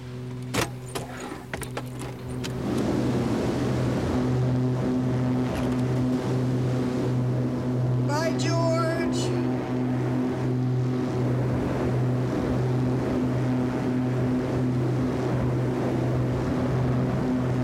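toilet flushing

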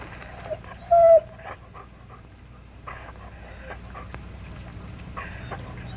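dog whimpering and panting

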